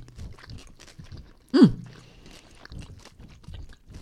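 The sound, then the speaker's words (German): Wet chewing and crunching of a licorice chocolate candy with small crunchy pearls, with a sharp bite partway through, continuing in steady irregular mouth sounds. “So, ich nehme mal eins, wo ein bisschen Lakritz so auch mein, zu sehen mein ist. Favorite. Ich steck das mal in den Mund, ne?”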